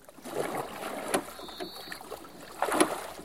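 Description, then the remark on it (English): Oars dip and splash through water as pirates row a small boat toward a ship, with broad watery strokes at a steady pace, moderately loud, plus a faint creak from the rowlocks. “The pirates row their small boat to the Sea Dragon.”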